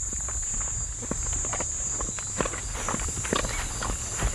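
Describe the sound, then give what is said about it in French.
Steady footsteps crunch along at an even walking pace through agroecological farm fields on the way to the Laguna Chocuaco lake, each step a soft, brief thud, over a constant high insect-like buzz and low rumbling background noise. “pour aller jusqu'au lac faire notre petit tour en bateau, on marche à travers les champs.”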